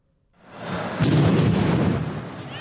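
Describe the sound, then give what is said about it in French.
A heavy bomb explosion near the Stade de France in France booms out, the second explosion there, its deep rumble swelling quickly and rolling on for a couple of seconds amid broad, noisy reverberation. “Deuxième explosion au Stade de France.”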